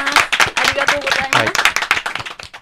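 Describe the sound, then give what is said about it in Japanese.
In a studio, people clap in congratulation in a burst of clapping, dense and steady with many overlapping sharp hand claps, while voices talk and laugh over it for the whole stretch. “改めて拍手、ね、 はい、 おめでとうございます。”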